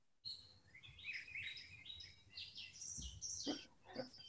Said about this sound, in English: I hear the birds singing. Yep. Yep. It's one nice thing about, because we're by the water, we have a lot of birds.